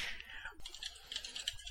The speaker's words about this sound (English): Why do they make keyboards loud? I don't know. Like, my Apple keyboard, pretty quiet, but then I have a USB keyboard plugged into it. It's like, click, click, clack, click, clack, click, click, clack.